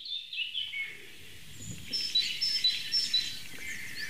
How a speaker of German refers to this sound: Cool, Meise. Na komm. Ein Vogel macht, was ich will.